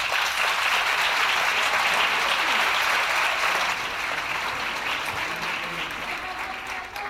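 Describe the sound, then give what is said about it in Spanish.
An audience at the Academia de Salva Calderón's end-of-course event claps for the Red Cross steadily for about seven seconds, a dense, sustained wash of applause that eases slightly in loudness toward the end. No one speaks over it. “Pido un aplauso para Cruz Roja.”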